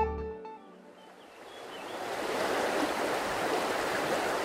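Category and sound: nature, river water flowing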